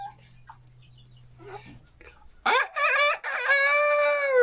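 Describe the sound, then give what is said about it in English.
After a couple of seconds of near silence, a rooster lets out one loud crow, starting with short choppy bursts and ending in a long, drawn-out harmonic call. “Now this is a boy chicken. Do you know what you call boy chickens? That's right, roosters. And do you know what sound a rooster makes?”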